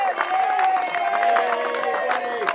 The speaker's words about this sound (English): On that first day, 24 or so cheery residents gather along the road's edge to applaud their youngest neighbors on the way into class.